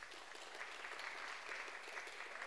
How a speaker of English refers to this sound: I think you should give him a round of applause for this.